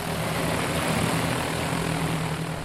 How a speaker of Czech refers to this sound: Tak jenom start. Nad hlavu se nám teď vznesl obří postřikovací dron, který je určený na hubení komárů v litovelském Pomoraví.